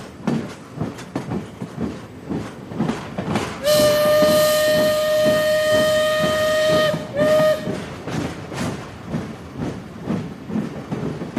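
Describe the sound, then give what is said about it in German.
A steam train chugs and rattles in a steady rhythm while its whistle blows a long, loud, sustained blast, then a short second toot, before the clattering continues alone. “Jetzt habt ihr euch wahrscheinlich gewundert, warum ihr im Hintergrund ein Eisenbahnhorn gehört habt und außerdem das Rattern einer Dampfeisenbahn.”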